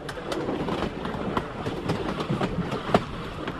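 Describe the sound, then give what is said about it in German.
A train on the line from Guayaquil to Quito in Ecuador rolls steadily along the rails, its wheels clicking and clacking in an irregular rhythm over a continuous rumbling noise, with no voices. “Erst seit 2013, nach einer langen und teuren Renovierung, fahren wieder Züge auf der ganzen Strecke von Guayaquil bis Quito.”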